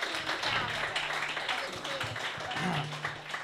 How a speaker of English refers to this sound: Hey everybody, welcome to the Commons Cafe. Give yourselves a round of applause for coming out to this live show.